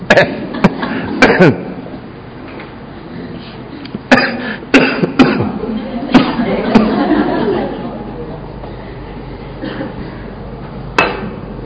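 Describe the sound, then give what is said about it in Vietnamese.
Repeated harsh coughing fits, loud, in bursts separated by short pauses, with a murmur of voices and rustling in the background between them. “Trời ơi, ho quá mà bắt nói hoài Chúa.”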